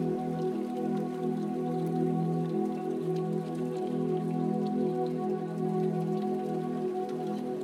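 Steady rain falls continuously, a soft even patter of drops with faint scattered taps, blended over a low sustained tonal drone that holds throughout without pause.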